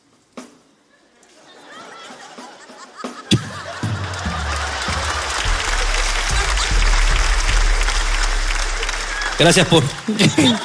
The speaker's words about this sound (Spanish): Gracias por ese aplauso, chicos. Ese aplauso que salva momentos incómodos, chicos. Muchas gracias.